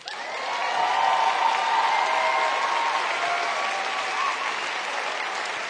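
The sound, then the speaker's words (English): An audience claps steadily for several seconds, a dense, even wash of applause that swells quickly and holds, with faint scattered cheers mixed in. “See, now that wouldn't get applause everywhere, I'm betting, is what I think, you know, in a lot of venues.”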